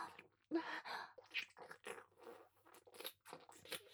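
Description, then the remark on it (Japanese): Wet slurping and sucking mouth sounds come in a series of irregular bursts, some louder and longer, others quick and soft, with no talking. “ですが、すするの止められません。”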